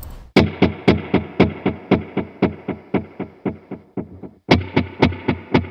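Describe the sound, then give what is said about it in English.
An electric guitar through a delay effect that splits the repeats into eighth notes, its notes repeating in a steady, rapid pulse of bright echoes that briefly thin out before a strong restrike brings them back. No one speaks. “I mean, like, so it's just kind of, you can really, like, you can create really interesting sort of echoes in this.”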